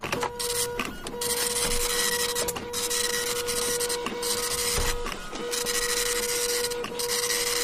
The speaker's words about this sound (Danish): Du sidder i dit sørgelige ungdomsliv og tænker, hvad var det for en lyd? Det hedder en printer, lille ungdomssvin. Og det jeg troede, det var en telex. Nej, det lyder helt anderledes. Det var en god gammel Matrix-printer.